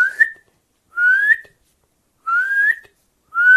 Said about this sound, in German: Und wenn bald der Gesang komplett verebbt, ist das Einzige, was bleibt von der Nachtigall, ihr lauter Kontaktruf, der auch zu einem Warnruf werden kann, ihr lautes.